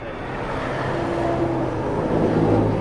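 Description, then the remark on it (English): Steady highway traffic at night rumbles past a closed lane, a few cars drifting in and out of it; a continuous broad roar of tires and engines that swells slightly as vehicles go past, with a low humming drone underneath and no voices. “Back in the truck with Scott Campbell, a few cars have drifted in and out of the closed lane.”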